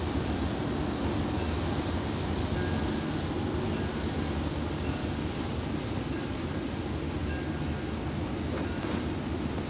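A fast electric train, the Clipper, speeds along under electrical power with a steady, heavy rumbling roar that fills the whole stretch without letting up, loud, with no voices.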